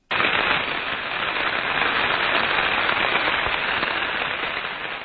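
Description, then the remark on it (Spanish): A suction pump cavitating, hundreds of water vapour bubbles imploding: a dense, steady crackling rattle, like gravel churning through pipes, loud and unbroken for about five seconds with no voices. “Vamos a escuchar un ejemplo de cavitación en una bomba de succión.”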